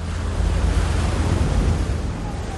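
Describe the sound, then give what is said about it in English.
A Pacific tidal wave, one mile high, surges in as a loud, continuous roar of rushing water with a heavy, rumbling low end, swelling slightly midway and holding steady throughout. “A Pacific tidal wave, 1 mile high, sweeps in.”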